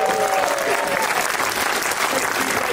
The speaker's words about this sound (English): Ladies and gentlemen, our next person coming to the stage, clap it up for